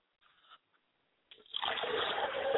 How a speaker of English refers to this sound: I humbly pour libations to my father's spirit, and my Obatala, my father's spirit is Obatala.